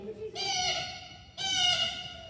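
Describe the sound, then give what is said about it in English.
Two harsh, nasal calls in the style of a blue jay, each about a second long with a brief pause between, fairly loud, likely a human voice imitating the bird. “This is a blue jay.”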